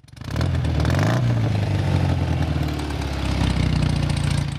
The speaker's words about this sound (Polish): przez Rzeszów na swoim starym motocyklu z wózkiem będzie przejeżdżał